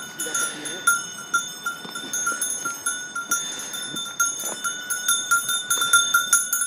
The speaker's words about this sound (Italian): Un gregge di pecore risale il sentiero che porta ai pascoli, un rito che ad inizio estate si ripete da secoli sulle Alpi, anche se sono sempre meno i pastori che lo praticano ancora.